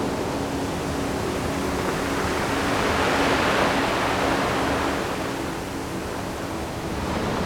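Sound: waves crashing on shore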